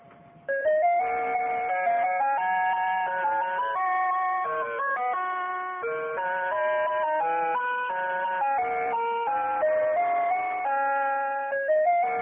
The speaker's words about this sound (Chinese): 怎么样，喜欢吗？这个叫做时钟音乐盒。